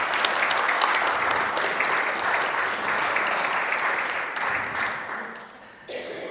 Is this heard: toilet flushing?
no